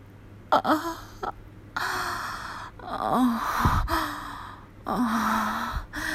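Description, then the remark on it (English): A series of breathy, low-pitched moans mixed with sharp gasps and sighs, four or five drawn-out vocal swells separated by brief pauses, with no spoken words and a faint steady hum underneath. “My moans.”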